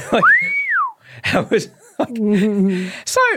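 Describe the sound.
A person whistles a single swooping note that rises and then falls, loud and close, followed by a few short vocal noises and a hummed, wobbling tone.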